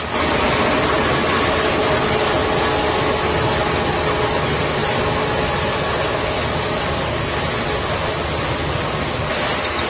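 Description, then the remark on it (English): Combine harvesters reaping rice fields in China drone steadily, a loud, continuous engine rumble with a rough mechanical hum that holds unbroken for the whole stretch, with no voices. “Insects, stirred up by the noisy machines, are snapped up by gangs of red-rumped swallows, including this year's youngsters, who will have fledged several weeks ago.”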